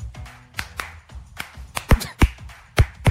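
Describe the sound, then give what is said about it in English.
A string of sharp hand claps from Bologna at an uneven pace, a few louder and punchier than the rest, with no talking over them. “Give us some clapping”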